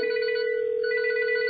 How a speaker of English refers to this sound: Okay, that's my cell phone ringing. I know I could turn it off and... not annoy us. But then we might have an awkward silence, so we might as well have the noise so we know that this is actually working.